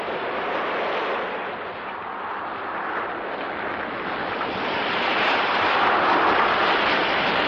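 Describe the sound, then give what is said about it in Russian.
A steady roar of stormy wind mixed with surging sea waves, a dense continuous rush that swells slightly louder toward the end, with no voices, as a boat is torn loose and tossed on the sea. “Женщина исчезла, и тут же поднялся страшный ветер. Загрохотали волны, и лодка сорвалась с места.”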